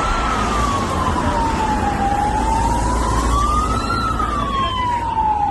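A police siren wails in a slow rise and fall over a steady, loud roar of engines and road noise, from a video of a police car chase. No one speaks.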